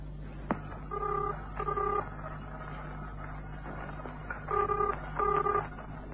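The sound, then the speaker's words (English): Telephone keypad tones as a number is dialed to call Nick at the Nichols Agency: a click, then two quick beeping tones, a pause, and two more, over a low steady hum with no talking. “Get Nick on the phone, will you? From here.”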